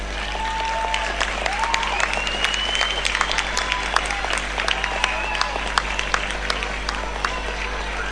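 An audience breaks into sustained applause, a dense, steady wash of clapping lasting several seconds, with scattered high whistles and cheers rising above it.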